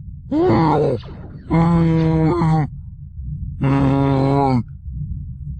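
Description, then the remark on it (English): A voice imitates the Wookiee Chewbacca howling as he fights Imperial officers, three long, strained, groaning bursts with gaps between, loud and rasping with a wavering pitch, over a steady low rumble. “With all this howling nonsense and with all thy blasting, 'tis a miracle that all within the station have not heard of our arrival.”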